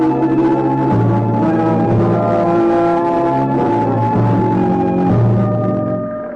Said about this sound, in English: I heard the fire engine. The whole Greenville Volunteer Fire Department, racing pell-mell toward the southern edge of town, where the Dexter Dean chemical plant was